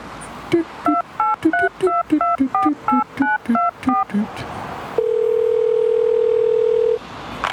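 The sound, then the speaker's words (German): A quick run of touch-tone dialing beeps on a telephone in a phone booth, about a dozen short paired tones, followed by a steady, clear telephone tone lasting a couple of seconds, heard alone and fairly loud. “Und will auch telefonieren.”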